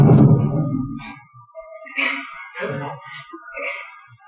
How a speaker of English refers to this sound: with each table slap, we will progress with the slide.